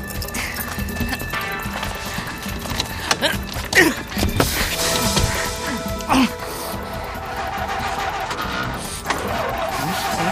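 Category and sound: vehicle, car driving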